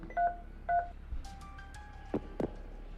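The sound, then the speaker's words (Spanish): Two clear beeping touch-tone keypad presses near the start, followed by softer tonal chimes and a couple of low thumps, like a phone number being dialed on a telephone, calling the Calderón, Cutiño y Fundiño law firm in Madrid. “Por favor, ¿podíais llamar, marcarme el teléfono del bufete de Calderón, Cutiño y Fundiño?”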